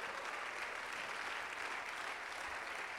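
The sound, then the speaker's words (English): An audience at a church service applauds steadily, dense overlapping hand claps forming a continuous wash of sound at an even level throughout, with no voices standing out. “Oh, somebody clap your hands in the house today.”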